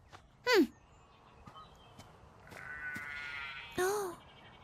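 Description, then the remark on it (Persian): Two short, wavering sheep bleats, roughly three seconds apart, stand out over a low outdoor rumble with a few faint clicks and a brief buzzing sound between them. “ببینم اونا گوسفندن؟ آره گوسفندن.”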